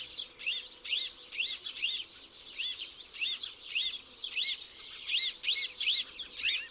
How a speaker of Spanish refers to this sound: Una bandada de rabilargos, jóvenes y adultos, recorre la dehesa una vez concluida la estación reproductora.